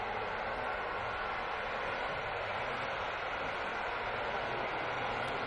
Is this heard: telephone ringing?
no